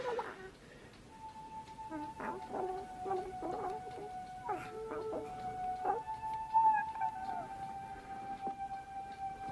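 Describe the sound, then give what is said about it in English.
A new pet dog lets out a long, drawn-out howl that holds a steady pitch for several seconds, with short choppy yips and clucking noises scattered around it, moderately loud. “It's your new pet. Come on, Barney, be a good dog”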